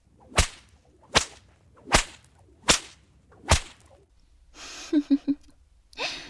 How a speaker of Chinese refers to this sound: 好啊，看来鞭子的滋味还没尝够呢。